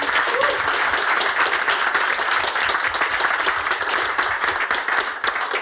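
A crowd applauds steadily, a dense wash of many hands clapping at even loudness for several seconds without pause, with no voices rising above it.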